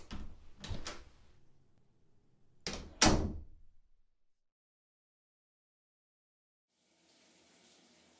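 A few sharp door knocks and bangs, a louder slam around the middle, then a short silence before the soft, steady hiss of shower water starts running.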